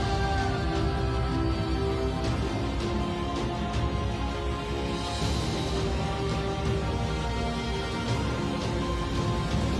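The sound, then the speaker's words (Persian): Steady rain falls throughout, a dense, even hiss that never lets up, with a low tonal hum running underneath. “بارون اونا میکشه.”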